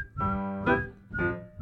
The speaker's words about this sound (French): 8h10. Monsieur sifflote.